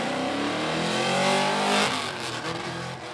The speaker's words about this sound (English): Clouds of smoke and dust engulf the car as he does donuts around a pole. The car looks like it could spin out at any moment.